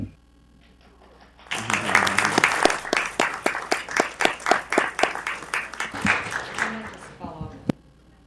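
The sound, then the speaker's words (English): A round of applause breaks out at a meeting after the mayor is asked to suspend the rules, many hands clapping in a dense, lively patter for about six seconds before tapering off, with a few scattered claps at the end. “Could we suspend the rules for a round of applause?”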